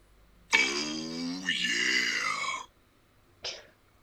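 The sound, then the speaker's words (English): A voice imitates a quiz buzzer with a loud, harsh, nasal buzz lasting about two seconds that dips briefly in pitch midway, then a short breathy burst follows after a pause. “I can probably create a buzzer noise.”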